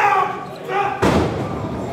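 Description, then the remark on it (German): At a wrestling show in a hall with about 200 fans, wrestlers crash onto the ring floor after a throw and a spinning jump in a single heavy, booming slam halfway through, which rumbles and fades out. Before it comes a stretch of loud overlapping voices. “Ein Wurf, ein Drehsprung, die Wrestler krachen auf den Ringboden.”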